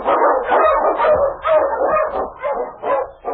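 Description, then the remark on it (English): King, an Eskimo sled lead dog, barks loudly in a rapid, steady series of about seven harsh barks, some edging into yips and whines, with no voices present, as he blazes a trail through storm and snow in the Yukon. “The Wonder Dog King, swiftest and strongest of Eskimo lead dogs, blazes a trail through storm and snow for Don Preston as he meets the challenge of the Yukon.”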